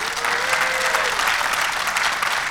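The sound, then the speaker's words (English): A crowd claps steadily throughout, a dense, even wash of applause with no pauses, with a faint tone briefly audible underneath near the start. “By show of applause, did you wish you'd learned this stuff a little early in your life?”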